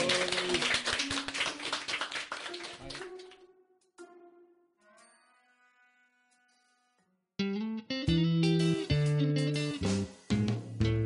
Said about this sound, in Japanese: じゃあちょっと拍手で終了みたいな感じ で。